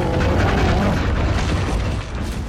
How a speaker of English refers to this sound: Well, that roar and those footsteps belong to Mag the Mighty, the enormous mammoth-riding giant draped in bones.